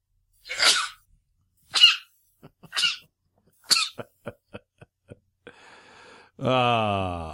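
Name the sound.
sneeze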